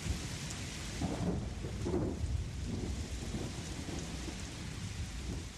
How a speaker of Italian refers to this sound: Venne un temporale che flagellò la campagna e rose le strade, per fortuna senza grandine.